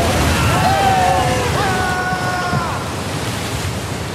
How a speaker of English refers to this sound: All right! Swells are getting bigger and bigger. Quick, run down the mast. The waves are too high. We're going to capsize. Watch out!